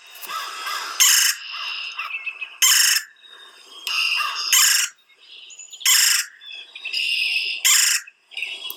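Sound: woodpecker calls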